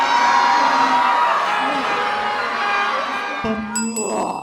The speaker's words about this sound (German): Das Tram fährt los und Werwolf Röbi frisst alle Menschen im Tram auf! Die Menschen schreien!